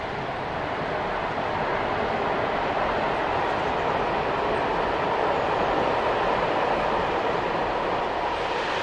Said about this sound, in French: Le train qui passe.